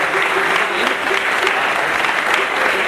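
An audience claps steadily, a dense, even wash of many hands that stays loud and unbroken for the whole stretch, with a faint murmur of voices mixed in.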